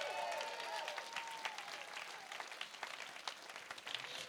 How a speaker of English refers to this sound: Now, here's the clap offering. Get your hands out. Get them ready, okay?